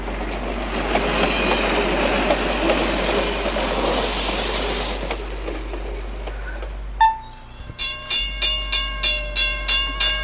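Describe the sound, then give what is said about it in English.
A freight train rumbles steadily along the rails, then a brief whistle-like tone sounds, followed by a quick, regular series of ringing pulses. No one speaks. “Freight trains suddenly travel.”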